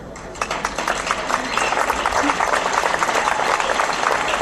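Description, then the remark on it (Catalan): An audience at a festival breaks into sustained applause for the festival committee, many hands clapping in a dense, steady patter that builds after a brief start and holds strong to the end. “I com no, doncs m'agradaria molt que la comissió pugés i que la poguéssiu aplaudir per potser donar-li les gràcies.”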